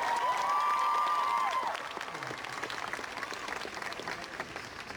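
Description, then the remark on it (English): A crowd applauds Richard Sherman steadily, dense clapping filling the whole stretch, with a few high whistles or cheers riding on top early before the applause eases slightly and carries on. “So please a round of applause for Richard Sherman.”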